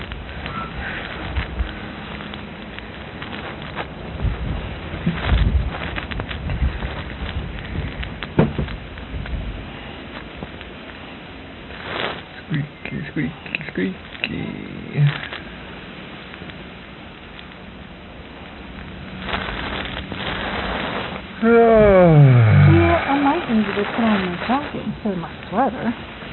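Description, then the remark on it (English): Wind blows steadily outdoors, a rough, crackling rush that swells and fades in gusts. A brief rising, tonal voice-like sound cuts through near the end. “Because of the wind. It's yeah. Windy.”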